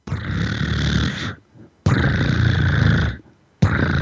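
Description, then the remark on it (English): A person imitates a cat's purr with a low, rolling tongue vibration at about 25 hertz, the tongue going back and forth about 25 times a second, making loud buzzing bursts of over a second each, separated by brief pauses for breath, with no talking. “And that would be, if you want to hear that, just do a kitty cat purr.”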